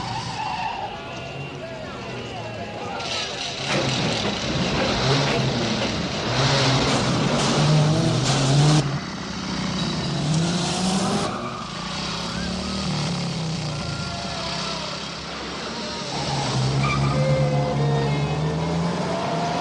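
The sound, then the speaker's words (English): Car engines rev and roar steadily on a road trip, with swells of acceleration and what sounds like tires scrubbing on pavement, plus faint indistinct voices in the background. “So I leave it up to you to decide which one of us was in which car.”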